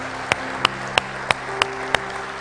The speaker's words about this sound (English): Come on, let's give God a good hand clap of praise and thank God. Glory to God.